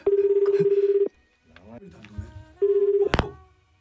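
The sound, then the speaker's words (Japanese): Two long, steady ringback tones of an unannounced outgoing phone call placed during a program announcing the Adult Band Awards (大人のバンド大賞), each about a second, with brief talk and rustling in the gap between them and a sharp click right after the second. “アポなし電話を入れてみたいと思います。出るかな、あら。”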